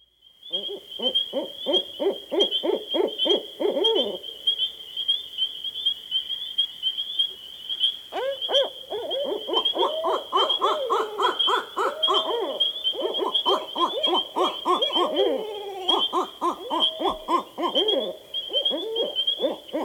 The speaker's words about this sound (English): Finally, here's a conversation between two barred owls.